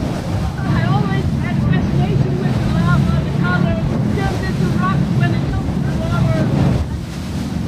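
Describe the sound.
The boat Hotspot cruises with its four outboard motors, 1,200 horsepower in total, roaring in a steady, loud low rumble, mixed with heavy wind buffeting and water noise. Faint, indistinct voices come through underneath.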